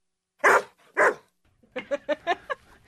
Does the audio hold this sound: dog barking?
yes